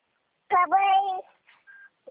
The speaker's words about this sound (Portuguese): A neném falando. Desculpa, tá?